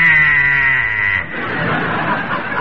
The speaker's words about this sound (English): And just look at this beautiful automatic coffee pot. As soon as the coffee boils, the buzzer goes off like this.